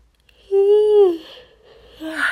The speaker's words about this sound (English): Yawn.